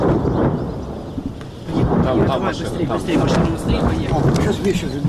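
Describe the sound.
Heavy artillery fire rumbles continuously in deep, rolling booms that swell and overlap while local residents are being evacuated, with people talking over the steady thunderous din.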